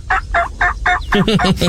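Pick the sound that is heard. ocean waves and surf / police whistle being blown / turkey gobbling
turkey gobbling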